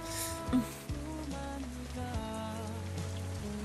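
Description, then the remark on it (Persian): Steady rain falls continuously around sunset, a soft, even patter spread across the whole clip, with low sustained musical tones playing underneath it. No voices are heard. “کتت کاملا خیس شده ها؟ اشکالی نداره، بارونه دیگه، چیز مهمی نیست.”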